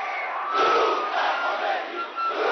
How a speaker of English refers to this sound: "Greetings to you, Khomeini," they chanted, surging toward him, desperate to touch the hand or robe of the holy man, or to have something, anything, touched and blessed by him.